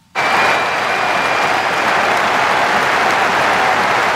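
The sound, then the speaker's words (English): A huge stadium crowd at the Euro tournament match between Denmark and Belgium bursts into thunderous applause as a tribute to Danish player Christian Eriksen, a dense, sustained roar of clapping that starts abruptly and holds steady and loud with no talking over it. “Thunderous applause for Christian Eriksen, who's recovering after suffering cardiac arrest.”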